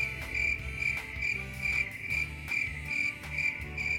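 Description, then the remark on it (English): A crickets sound effect played at the press of a button: crickets chirp steadily in a high, pulsing trill, with a low hum and soft thumps underneath; no one speaks. “I gave him crickets.”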